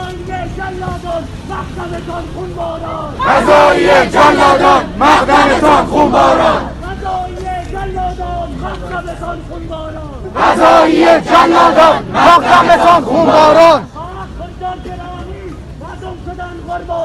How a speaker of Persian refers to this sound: من گوشه از تظاهراتشون رو برای شما پخش میکنم که بشنوید ببینید چی گفتن.